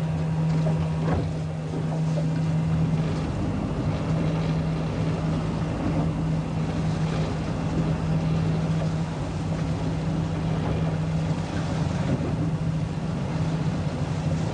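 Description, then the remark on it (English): A motorboat engine drones steadily as the boat is turned around while fishing, a low continuous hum over rushing water and wind noise, with no one speaking. “I know, but we got to turn the boat around.”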